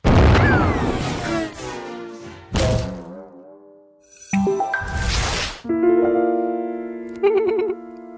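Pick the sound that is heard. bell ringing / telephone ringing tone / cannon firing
cannon firing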